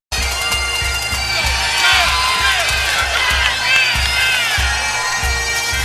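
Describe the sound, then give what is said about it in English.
A large wrestling arena crowd in Chicago roars steadily for Rowdy Roddy Piper, full of cheers, whistles and shouted voices, with a rhythmic low thumping underneath, like stomping or clapping, sustained and loud throughout. “Rowdy, Rowdy Piper, listen to this crowd here tonight in the Windy City.”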